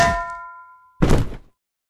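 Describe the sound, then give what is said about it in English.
A frying pan, swung by Rapunzel in a tower to knock out Flynn Rider, strikes with a bright metallic clang whose ringing tone fades over most of a second. A single heavy, dull thunk follows. No voices. “When Flynn Rider climbed into the tower, Rapunzel knocked him out with a frying pan.”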